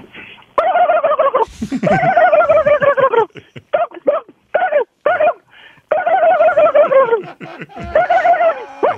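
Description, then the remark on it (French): A person imitates a turkey gobbling, with long warbling bursts alternating with short choppy gobbles, loud, with no talking. “C'est une des belles dindes, j'ai entendu.”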